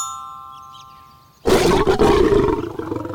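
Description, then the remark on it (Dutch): A lion in Africa roars as it jumps out of the bushes, loud, a single sustained rumbling growl lasting nearly two seconds, after a faint ringing, chiming tone that fades beforehand. “Ineens springt er een leeuw uit de struiken. Hij zit niet in een kooi. Hij rent op Dombo en Timmy af en brult.”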